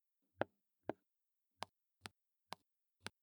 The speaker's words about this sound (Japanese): 爪を使うとまた違う響きで、トントン。